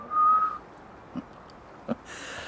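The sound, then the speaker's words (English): A single short, shrill whistle through the teeth, steady and fairly loud, fading out after half a second; two faint soft knocks and a hiss follow. “Whistled through his teeth.”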